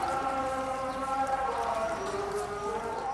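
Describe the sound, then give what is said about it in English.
A call to prayer at dusk during Ramadan, at a protesters' sit-in in Sudan, rings out as one long, sustained chanted voice, its melodic pitch wavering and sliding slowly over a steady low background murmur. “As the call to prayer sounds at dusk, the protesters at last take their first sips of water and bites of food since dawn.”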